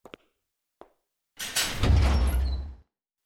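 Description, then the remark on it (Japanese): A couple of sharp latch clicks, then the front door of one of the small private rooms where a shop's tools are kept one by one swings or slides open with a rough, sustained rumbling scrape lasting over a second, with no one speaking. “ほら、道具は一つ一つこうして個室に入れてあるんです。手前の扉から開けましょうか。”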